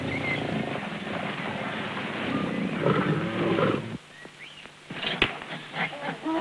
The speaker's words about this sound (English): Biting into the large antelope's head, the lion drags its lifeless carcass along the dirt.